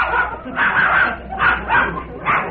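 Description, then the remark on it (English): A dog barks and whimpers in a run of about five short, bright yelps spaced roughly half a second apart, moderately loud, with no other sounds. “Glad he had to bring a dog in here yet.”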